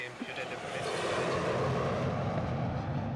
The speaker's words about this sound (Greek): Κάθε φορά που έφευγε αεροπλάνο, χάναμε για αρκετά δευτερόλεπτα, να μην σου πω λεπτά, τον ήχο, τα πάντα από την ταινία που παίζαμε, γιατί πέρναγε ακριβώς από πάνω το αεροπλάνο. Και συνήθως ήταν τα αεροπλάνα που φεύγανε για Ευρώπη.